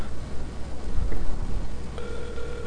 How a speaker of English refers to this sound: Pick up the damn phone. Well, we know the phone's on because it's ringing.